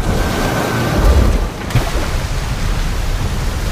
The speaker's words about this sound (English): A wave crashes over her.